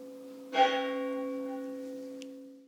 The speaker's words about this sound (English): and the start of the 12 days of Christmas, which celebrate the birth of the Messiah, Jesus Christ, and the bells are ringing out for him here. For Tudor people, the fasting was now over, and this was a day to celebrate. Just let the bells ring out.